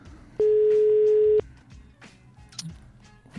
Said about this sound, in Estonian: Kutsub. Vaatame, kas... Hästi, ilusti kutsub. Väga ilusti kutsub. Puhas toon.